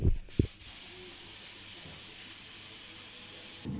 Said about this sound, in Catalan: Nosaltres ho pintarem amb esprai. Doncs som-hi.